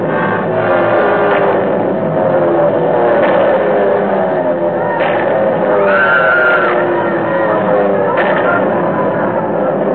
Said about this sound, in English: And then the planes came. German planes. They dropped out of the sky, swarmed down toward the road and the bus. It didn't seem possible that they were trying to kill us.